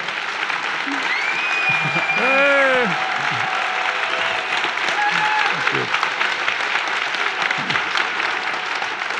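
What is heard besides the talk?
audience applause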